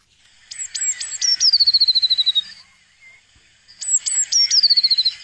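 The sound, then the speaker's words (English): A blue tit sings two phrases separated by a short pause, each opening with a few sharp, very high notes and running into a rapid, slightly falling trill. No voices are heard. “All right, let's have a listen once again to the blue tit.”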